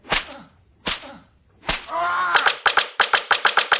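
Three sharp whip cracks land about a second apart, then a rapid, rhythmic volley of a dozen or so loud cracks in quick succession, with no talking; assorted whips, such as floggers, canes and bullwhips, strike a naked, blindfolded person.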